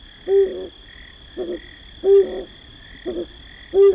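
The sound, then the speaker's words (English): A male flammulated owl gives low, mellow hoots at a slow steady pace in a mountain pine forest in the west as late summer darkness falls, stronger notes alternating with softer ones, over a faint constant hum of night insects. “Just as late summer darkness fully envelops a mountain pine forest in the west, a male flammulated owl begins to hoot.”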